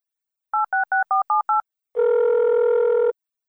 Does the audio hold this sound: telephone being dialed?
yes